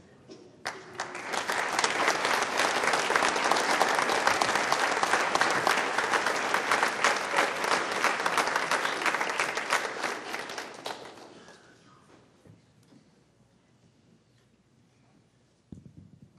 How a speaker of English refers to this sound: Give another round of applause for all of our seniors and their parents. You guys can be seated.